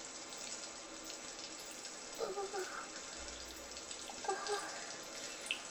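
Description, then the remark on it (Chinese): Steady hiss of a shower head spraying water runs throughout at moderate volume, with two brief faint vocal sounds rising over the rush partway through. “被淋浴头喷的，刺激的不行了。”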